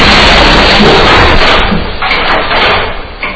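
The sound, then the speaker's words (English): A heavy elevator car, its safety mechanisms jumped out from the machine room, is crashed down 40 floors into the pit buffer with a loud, roaring metallic crash, then rattles and rumbles as the noise eases off over a couple of seconds. “Everything you're seeing, bypassing any number of safety mechanisms, which have all been jumped out by someone in the machine room, is crashing an elevator down into the pit buffer after 40 floors.”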